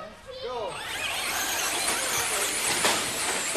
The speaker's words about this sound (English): I'm at the RC Havoc Raceway in Crandon watching a group of kids test drive remote control trucks. The miniature trucks leap off the starting line and start zooming around the indoor dirt track. You can probably hear them crashing into each other